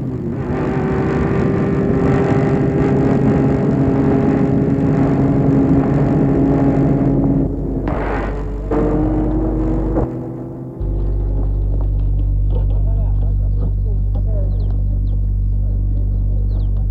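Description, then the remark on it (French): A car's engine rumbles steadily from inside Denis's car as three people ride in it, a low continuous drone with a brief dip partway through before settling into a deeper, even hum. No one speaks. “Et le lendemain, ils y vont tous les trois dans la voiture de Denis.”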